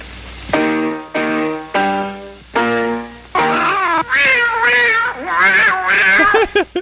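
Four evenly spaced piano notes ring out, then cats meow loudly in long, wavering, overlapping yowls that continue to the end.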